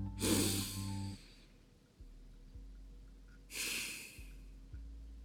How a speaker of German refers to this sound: … atmet tief.